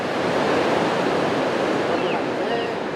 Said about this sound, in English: The sound of crashing waves and children playing along the Tijuana coastline looks like a normal day at the beach.